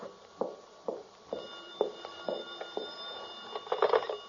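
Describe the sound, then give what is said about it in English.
An old-style telephone bell rings with a steady, sustained metallic tone and regular rattling strikes, growing busier toward the end, with no voices. “The phone. No, I'm not going to answer it.”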